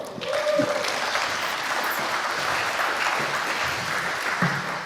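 Steady audience applause welcoming the speaker of a talk titled 'Your own mail server 2025 edition', a dense wash of clapping hands holding at an even loudness for about five seconds with no one speaking over it.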